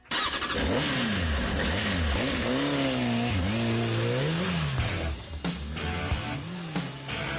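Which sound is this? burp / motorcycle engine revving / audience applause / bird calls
motorcycle engine revving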